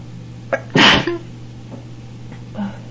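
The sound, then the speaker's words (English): A single loud, sharp sneeze, set off by dust from a great many books, bursts out after a quick indrawn breath, followed by a brief exhale, over a low steady hum in otherwise quiet surroundings. “Oh, enough to get anyone sneezing, I think.”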